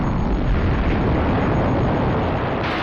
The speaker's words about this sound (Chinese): 随着轰隆隆如同爆炸一样的巨响，所有的星球都震撼了，原来是太阳老大发话了。